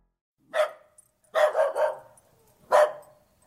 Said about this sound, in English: That sounds like one of my dogs yelling at me to throw a tennis ball.